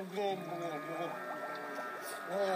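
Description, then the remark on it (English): A voice gurgles and burbles as if talking with its head under water, a muffled, bubbly warble that wobbles in pitch, fairly loud for a couple of seconds. “I've heard of the head in the sand approach. This is more like head under the water.”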